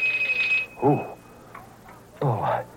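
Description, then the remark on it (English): A bright electric doorbell buzzes briefly, then leaves a thin, high ringing tone that fades out, with short bursts of voice sounding over it. “The doorbell.”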